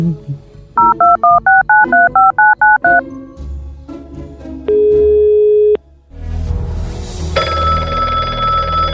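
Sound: telephone number being dialed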